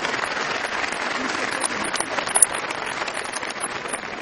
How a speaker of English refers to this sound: Also, another round of applause for Dr. Brian Sand and his fantastic attendant, James Mason, since the beginning.